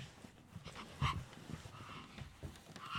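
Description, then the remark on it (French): Two young children, playing at being dogs in the evening, mimic dogs with quick panting breaths and short yapping barks, a few sharp bursts standing out around the middle and end, against a soft background. “Et alors, le soir aussi, pendant que je prépare à manger pour jouer avec moi, les deux petits, ils jouent au chien. C'est le nouveau truc. Donc, ils aboient comme des petits chiens.”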